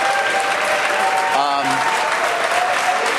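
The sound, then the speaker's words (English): Steady, loud applause fills the whole stretch while a stock exchange opening bell rings briefly in the middle, its bright tone cutting through the clapping before fading back into the crowd noise. “we got the opening bell here, of course, and you can take a look.”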